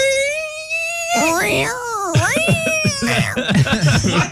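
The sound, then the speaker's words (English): Voices imitate a cat fight with drawn-out, wavering yowls and screeches that rise and fall, followed by rapid choppy vocal sounds, loud throughout. “It's a cat fight.”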